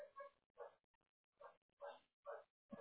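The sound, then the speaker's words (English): A company dog barks about six times in a steady, evenly spaced series, each bark short and sharp and fairly quiet, with no talking over it. “We have a company dog here.”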